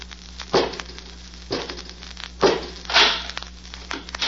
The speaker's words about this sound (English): Robot 2, open the door.